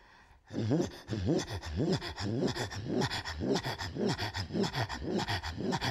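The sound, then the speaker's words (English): Rhythmic deep throaty tones, sung with the mouth only, rise and fall in pitch, pulsing steadily for several seconds, each separated by a sharp, quick breathy inhale, giving a panting, chugging pattern. “And then there's some of the songs have only deep tones, and then you teach yourself to inhale very sharply and quickly in between the sounds.”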